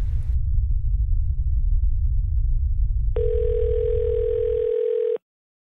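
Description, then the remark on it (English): A low, steady rumble runs for several seconds, then a phone alert sounds, a text message or call from a USGS duty seismologist on the on-call earthquake team: one sustained, mid-pitched electronic tone held for about two seconds before everything cuts off abruptly. “So whenever our phones go off, we either text messages or a phone call from one of the duty seismologists”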